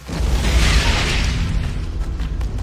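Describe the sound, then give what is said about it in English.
A loud, booming movie explosion mixed with animal-like roars, with a heavy low-end rumble and a rough, roaring texture that swells quickly, then slowly decays over a couple of seconds. No voices are present. “Is when there were explosions, there was there in the were mix animal like roars.”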